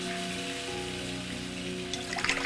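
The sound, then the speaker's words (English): A shower runs steadily, a dense, continuous hiss of water spraying over a faint low hum, with a few brighter splashes near the end. No one speaks. “goes into the shower.”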